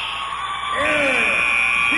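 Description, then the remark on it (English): A loud, sustained arena buzzer blares steadily over an excited crowd roar, signaling the end of the first quarter of a basketball game at the MAC Championship doubleheader, with Harpersville leading 29-2, amid cheering voices. “And you hear the buzzer.”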